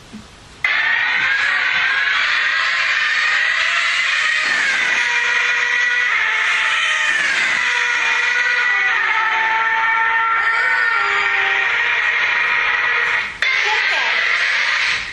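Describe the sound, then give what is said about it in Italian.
A loud, steady roar of a car passing in front of a stationary listener fills the whole stretch, its humming tones gliding downward in pitch as it goes by (Doppler effect), with a brief dip near the end. “Questo è invece quello che sento quando io sono fermo e la macchina mi passa davanti, ok? E lì sentirete una modulazione del suono.”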